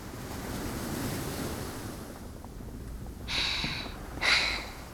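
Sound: ocean waves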